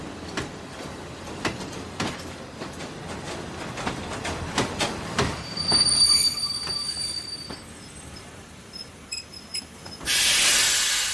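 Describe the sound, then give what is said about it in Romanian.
Railway wagons with people locked inside, boarded at Gara Regală Băneasa, roll along with a steady, rhythmic clatter of wheels over rail joints, then a high, thin wheel squeal rises and holds, ending in a loud burst of hissing noise. “Ne-au suit în vagoane, au zăvorât ușile și am rămas în întuneric.”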